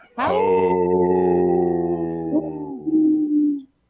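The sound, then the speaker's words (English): On the Native Roots Radio show, a person imitates an older wolf's howl in a low voice, one long sustained note that slowly slides down in pitch, wavers briefly near the end, then fades out after about three and a half seconds. “You see, I did a older wolf with a lower voice there.”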